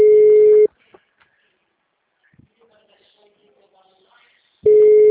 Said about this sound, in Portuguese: Tá chamando o telefone dele. Nada está sendo encaminhada para a caixa.